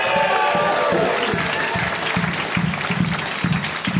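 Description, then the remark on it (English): Loud, steady, sarcastic angry clapping beats out an even rhythm of roughly two claps per second over a dense wash of broader applause and faint background murmur. “Those are anger claps.”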